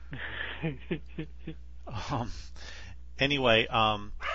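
Dogs guarding a property bark at an airplane flying over, in a quick run of short, sharp yaps, then louder, drawn-out barks and yelps with rising and falling pitch, with nobody talking.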